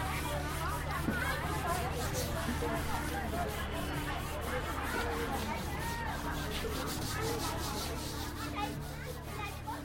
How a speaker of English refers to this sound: Recorded with a mini-disc recorder and quasi-binaural microphones. Washing Laundry. Women wash laundry in the river.